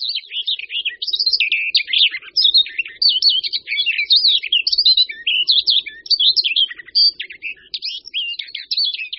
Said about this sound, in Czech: Odlišit zpěv pěnice vlašské můžeme podle kratších strof, méně bohatých na motivy, a zejména podle ostřejšího zvuku celé písně.